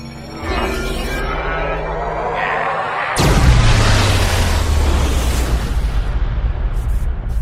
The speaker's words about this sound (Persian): انفجار، مشکلات تکنیکی، سیستمای مرد هالک خفه کن از کار افتاده.